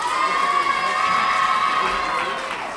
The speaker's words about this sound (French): Et pour lancer ce présentoir, je vous demande d'applaudir le ou les élèves du collège Jean Lamour.